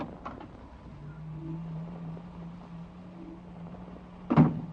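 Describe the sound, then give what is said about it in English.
A door opens: a few soft clicks at first, a low steady hum running underneath, then a solid clunk near the end, with no voices. “I got a feeling up my back the minute you opened the door.”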